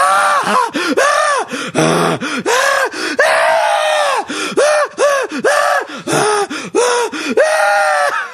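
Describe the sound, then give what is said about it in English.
A loud voice screams its way through a tune sung as a national anthem, a steady run of rising and falling shrieks and wails with brief breaths between them, continuous for the whole stretch. “Our national anthem will be sung in screams.”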